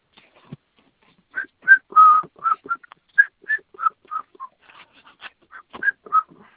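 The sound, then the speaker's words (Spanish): A contented person who has just eaten well whistles a series of short, high notes, around a dozen chirpy bursts in an uneven, playful rhythm, clear with quiet pauses between them and no talking. “Nos anda chiflando ya de que anda contento.”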